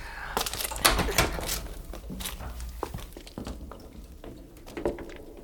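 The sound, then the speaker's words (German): A door being opened: a series of sharp clicks and clunks as the latch and handle rattle, with scattered light taps and shuffling around it and no talking. “Sag mal, das war doch direkt hinter dieser Tür hier.”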